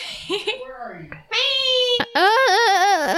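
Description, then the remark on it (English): A female cat lets out two loud, drawn-out meows, the second long and wavering in pitch, after a softer, quieter stretch of mewing. “For the podcast, my cat is meowing if she's in pain, but I guarantee she's not.”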